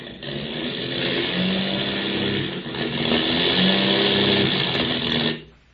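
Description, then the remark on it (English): A failing airplane engine with motor trouble over the Indian Ocean drones loudly and roughly, its pitch wavering unevenly and briefly dipping midway, before it abruptly cuts out into silence. “We've got motor trouble.”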